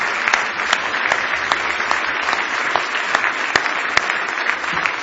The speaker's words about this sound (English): Go ahead and give the Lord a big hand clap of praise if you love him.